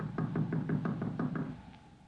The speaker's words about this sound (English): We gotta let Doc know we're here some way or other. I reckon it won't hurt nothing to tap on the door sort of general.